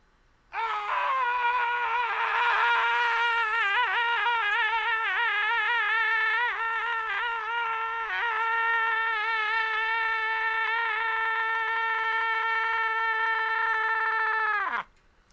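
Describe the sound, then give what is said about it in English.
A man lets out one long, loud, high-pitched scream, held steadily for about fourteen seconds with a wavering strained edge, then breaking off in a brief rough, phlegmy gurgling drop at the end. “I like the little gurgle you had going on at the end there.”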